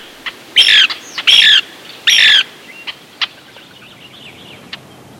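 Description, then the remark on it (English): A Lewis's woodpecker gives three harsh, raspy squawks in steady succession, followed by a few faint, sharp single chips. The calls are clear, with no talking. “Look for the lovely Lewis's woodpecker in eastern Washington's large stands of native oak or along rivers near big snags of pine and cottonwood.”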